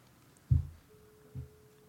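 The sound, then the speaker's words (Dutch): A mobile phone set to silent mode and held near a microphone rings and vibrates in two short, low buzzing bursts about a second apart, with a faint steady tone between them and no talking. “Dan gaat over en hij trilt.”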